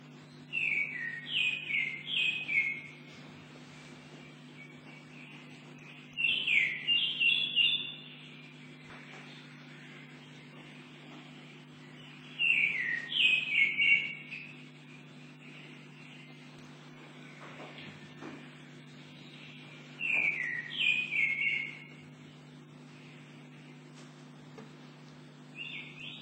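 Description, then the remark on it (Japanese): A Japanese grey thrush sings four bright, fluting phrases of a few seconds each, spaced by longer pauses, clear over a steady low background hum. “先ほど黒ウタドリが、日本の黒つぐみに似てるというので、最後に日本の鳥を代表して、黒つぐみの声を聞いてみたいと思います。”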